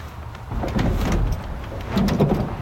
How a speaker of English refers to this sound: Oh, and listen to how old and junky that thing is. Yeah. That's like a medium duty, like 60s or 70s truck that has no door panels on it anymore.